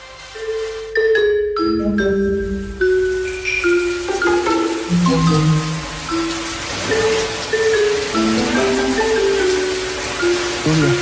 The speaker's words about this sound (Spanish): Llegó la lluvia. Viene con lluvia.